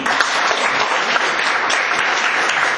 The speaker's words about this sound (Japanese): ここで盛大な拍手という言い方をしますと、いや、癖になりますので、大変なのが癖になります。ほどほどの拍手をもう一度お願いします。